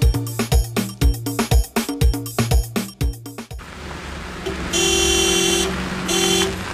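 Loud rhythmic music plays, then cuts to a car engine rumbling as a borrowed car on a test drive pulls up, followed by two bright honks of its horn in quick succession.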